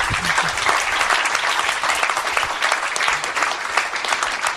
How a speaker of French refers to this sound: On peut applaudir Sylvain.